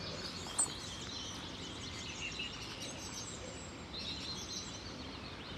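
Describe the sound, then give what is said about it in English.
Birds chirp and sing faintly outdoors, with scattered high calls over a steady, soft background hush and no voices. “The little touch points. The butterflies. The birds.”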